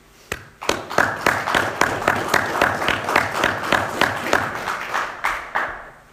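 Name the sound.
audience round of applause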